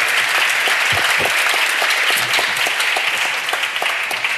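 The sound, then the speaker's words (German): A crowd applauds steadily and loudly to welcome a newcomer hip-hop artist, dense clapping filling the whole span with a few sharper claps standing out, no voices over it. “Deshalb einmal Applaus für”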